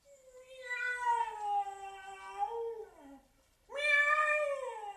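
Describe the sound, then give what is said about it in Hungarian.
In a castle cellar, a cat lets out two long, drawn-out meows. The first is a wavering yowl lasting nearly three seconds, then a brief pause comes before a second loud cry. “Mi ez a hang? Ne féljék a fiatalul! Ez csak egy macska!”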